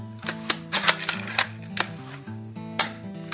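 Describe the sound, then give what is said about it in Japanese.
Airgun shots fired without a silencer: about seven sharp, loud clacking snaps at an uneven pace, heard over a steady backdrop of low, sustained tones. “たかだがエアガンと思う流れ、なんとサイレンサーをつけると随分と音は静かになるのだ。”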